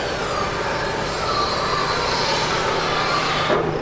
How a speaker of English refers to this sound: The site is a hive of activity. Big dump trucks and bulldozers are hauling sand back and forth, and it is pretty loud. It definitely eliminated the sounds of chirping birds and rustling.